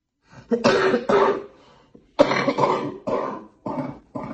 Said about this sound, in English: The woman coughing is a resident of one of Maine's 90-plus nursing homes. She isn't shown in the video that was recently posted online, but she is awaiting results of a COVID-19 test that was taken more than a week ago.